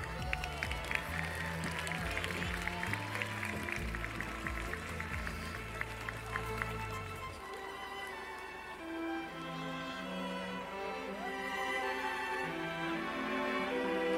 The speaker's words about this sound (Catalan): Aplaudiu!